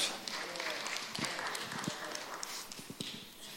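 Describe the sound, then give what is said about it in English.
A short round of applause from a group, dense crackling claps with a few sharper, louder claps standing out, holding steady for a few seconds before thinning slightly. “Round of applause.”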